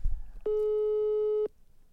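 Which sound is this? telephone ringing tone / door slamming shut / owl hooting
telephone ringing tone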